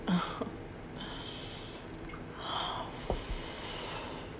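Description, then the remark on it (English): A person yawns, a long, breathy exhale that rises and fades, with a brief nasal snort near the start. It is quiet overall with no talking. “I think that's just boredom. Yawning.”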